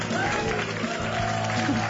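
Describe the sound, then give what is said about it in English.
Canned applause from a sound effect CD, played on Island Coast Radio: dense, steady clapping with crowd voices mixed in, holding an even, fairly loud level for the whole two seconds. “that's canned applause. That was a sound effect CD we bought.”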